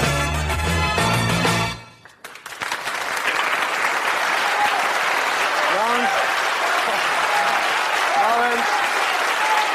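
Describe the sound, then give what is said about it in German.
A brief burst of music cuts off, then an audience breaks into steady, dense applause that holds for several seconds, with a few faint voices and rising whoops mixed into the clapping. “Nein, also mit dem Beifall immer kurz fassen, weil wir müssen wirklich pünktlich fertig werden.”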